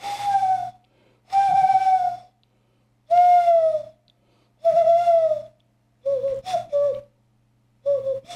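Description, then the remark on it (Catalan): A person at home whistles a bird call to talk with birds, six clear sliding notes separated by short pauses, the later ones breaking into quick warbling pairs, fairly loud with no talking. “Tinc alguns diàlegs amb ocells.”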